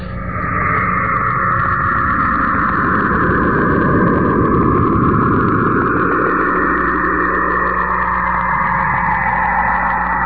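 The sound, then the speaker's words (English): Radio emissions from Saturn's magnetic field, recorded by the Cassini spacecraft as it passed closely by the planet, heard as a steady, loud, rumbling drone with layered hissing bands and slowly drifting tones, running unbroken for about ten seconds with no voices. “What you're hearing right there is emissions from Saturn, the planet Saturn. The spacecraft Cassini passed by it closely and recorded that sound.”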